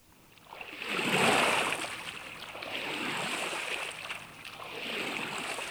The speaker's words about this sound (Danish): Se, nu driver båden også væk.